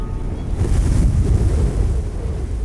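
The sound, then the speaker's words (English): Strong wind gusts roar across the microphone with a steady low rumble on a cloudy day, surf washing faintly underneath at the seaside. The blustery noise holds throughout, swelling slightly near the middle, with no voices. “It's windy.”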